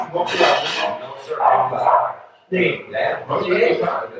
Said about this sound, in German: Entschuldigung, wenn ihr den Hund hört, der Hund, den haben wir nicht, der bellt immer noch. Der wird nicht gekillt.